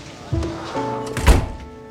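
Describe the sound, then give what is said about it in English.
An office door, Ted's office, swings shut with a single solid, low thunk, preceded by a softer bump, over a faint steady tonal hum in the background. “But as soon as she walks into Ted's office and shuts the door, the team goes away.”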